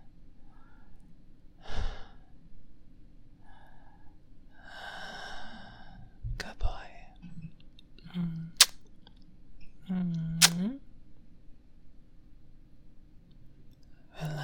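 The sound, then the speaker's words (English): Slow, calm breathing: a few soft, drawn-out breaths and sighs spaced several seconds apart, with faint clicks and small mouth noises between them and no talking. “In my arms and listen to my breathing, and soon we'll drift off to sleep, ready to start a new day tomorrow.”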